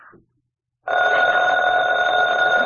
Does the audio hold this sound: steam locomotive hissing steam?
no